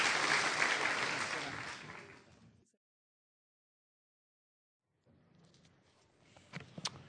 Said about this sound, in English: Let's give them a clap. Well done.